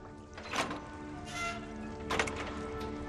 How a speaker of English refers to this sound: Vinny lifts the hatch of his subpod.